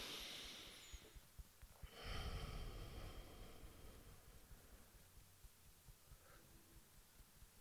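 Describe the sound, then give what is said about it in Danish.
A single slow, deep breath drawn in and let out while at the collarbone point, a soft airy rush that swells and fades, followed by quiet stillness with faint small clicks. “og tage en dyb vejrtrækning her på kravbindsrunde.”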